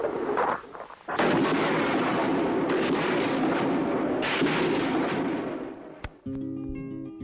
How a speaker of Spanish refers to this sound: Bueno, lo que escuchamos de fondo, digamos, es un relato verídico de en el momento que se empiezan a escuchar las explosiones y se corta la transmisión de Radio Magallanes. Ahí es cuando empieza el tiroteo adentro de la plaza. De la Casa de la Moneda